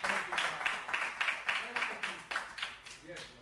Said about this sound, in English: Can you clap your hands and give the Lord a praise?